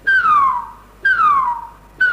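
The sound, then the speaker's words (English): Repeating descending whistles, about one per second, from a pulsar whose periodic clicks are stretched into whistles by the interstellar medium, low frequencies travelling more slowly; each a bright tone gliding downward in pitch with faint overtones above, loud and clear with no voices. “And as a result, instead of hearing a periodic click, you would hear a whistle.”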